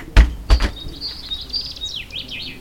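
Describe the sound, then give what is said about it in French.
A common chaffinch sings at the start of the day under a blue-and-white sky at 5 degrees, a bright, high trill that ends in quick descending flourishes, clear. Two sharp knocks sound just before the song begins. “Et le pinson des arbres célèbre ce début de journée avec un ciel bleu-blanc.”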